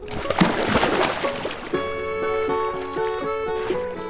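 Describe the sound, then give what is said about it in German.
A burst of churning, sloshing water as a person jumps into a lake of soft, clean, not-cold water, lasting about a second and a half, then giving way to steady tonal music. “Und jetzt reinspringen,”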